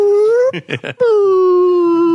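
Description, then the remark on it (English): Humpback whale song: a loud, drawn-out tonal moan that slowly dips in pitch, briefly broken midway by three quick pulsing calls before the long, eerie note resumes. No voices. “Whale song, really good. Humpback whales, specifically.”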